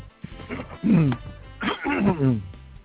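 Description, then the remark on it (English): Someone coughs and clears their throat in a few rough, voiced bursts, uneven in rhythm and moderately loud, with brief pauses between them. “Are you okay? Yeah. Oh. Okay. Have my cough drop.”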